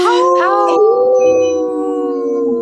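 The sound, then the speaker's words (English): A person imitates a wolf howl for a radio show segment sponsored by Howling for Wolves: a single loud, sustained wail that slides up briefly at the start and then holds a steady, slightly wavering pitch. “Howl! Good howler. Howler. He howls well.”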